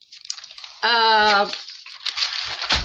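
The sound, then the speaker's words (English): Papers rustle and shuffle in a steady, crinkly stream, briefly interrupted by a short voiced sound before the handling noise resumes. “I keep that paper shuffle in.”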